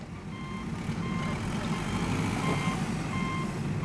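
A construction-site truck's reversing alarm beeps steadily, about once a second, each tone sharp and evenly spaced, over a loud, continuous diesel engine rumble.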